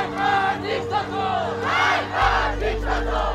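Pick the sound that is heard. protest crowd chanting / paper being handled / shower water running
protest crowd chanting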